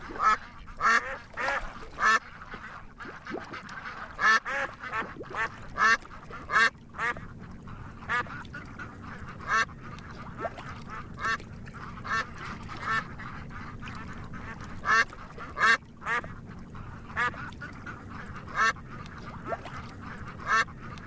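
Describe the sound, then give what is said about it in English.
Ducks quack repeatedly in short, raspy bursts over a steady low background hum, the calls coming in irregular clusters throughout, clear with no talking, played as an audio screensaver. “You've selected screensaver ducks.”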